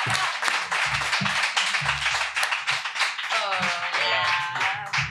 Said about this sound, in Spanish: Un aplauso